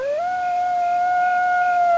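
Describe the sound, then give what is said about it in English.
A female coyote, trying to locate her pack in the evening, howls in one long, sustained note that rises at the start and then holds steady, loud, with no other voices around it. “A coyote's trying to locate her pack.”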